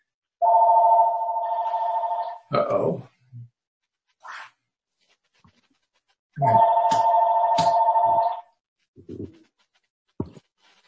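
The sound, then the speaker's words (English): A telephone rings twice, each ring a steady electronic trill lasting about two seconds with a pause between, moderately loud, with a few small knocks and clicks around it and no talking, ringing in the background during a meeting. “Oh, I'm sorry, there's a phone ringing in my background, so which I can't do anything about.”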